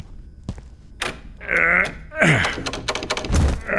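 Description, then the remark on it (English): A person grunts and strains with effort trying to open a stuck door in an old, dusty storeroom, the door thumping and rattling in its frame, a few dull knocks breaking through the groans as it refuses to give. “Nah, this thing's stuck fast.”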